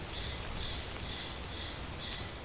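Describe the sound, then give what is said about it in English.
Light drizzle hisses steadily and evenly on a misty morning in the Andes mountains outside the village of Futaleufú, with a soft wash of fine patter and no voices; a faint high call repeats about every half second. “It was misty, it was drizzly, I had my rain jacket zipped up and my hiking boots on.”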